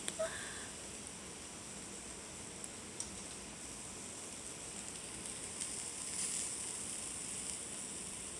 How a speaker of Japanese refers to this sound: うわー、ジュージューいってる。